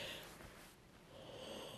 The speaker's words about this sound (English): Oh no. I'm yawning again. I bet this is making you guys yawn. I'm sorry. As you guys know, I usually record when my kids are asleep, but I'm gone and they're asleep, which means it's early and I'm very tired still.